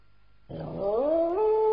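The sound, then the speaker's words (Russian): A dog howls, heard through curtains, in a single long, mournful note that starts abruptly, slides upward in pitch and then holds steady, loud and clear with no voices. “Сквозь шторы вдруг проник долгий тоскливый звук.”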